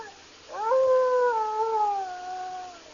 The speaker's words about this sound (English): That's strange. That howl's coming from the east wing of this cabin, right over there.